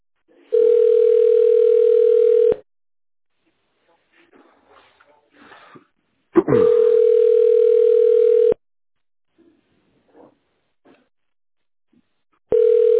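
A steady, mid-pitched telephone ringback tone repeats while a caller to the company Khimstalkom Engineering waits for an answer, each burst lasting about two seconds with roughly four-second pauses between. Faint rustling and small clicks fill the gaps.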